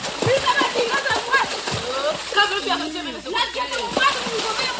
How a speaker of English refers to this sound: Here, the musicians are playing the water itself. The drumming still brings in percussion and even a sharper texture from the smack of hands onto the surface.